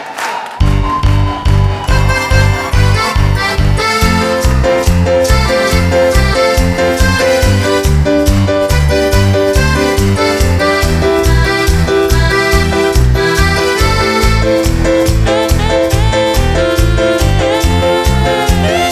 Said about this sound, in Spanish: ¿Querían cuarteto? Y con las palmas. Ahí va.